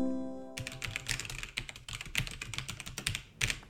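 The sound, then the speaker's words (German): Rapid typing on a computer keyboard while trying to crack a password, a steady flurry of crisp key clicks with irregular rhythm and a few heavier strokes, preceded by a brief fading tone. “Ich mache mich jetzt auf jeden Fall mal an den Computer. Hier, ich habe meine Tastatur dabei.”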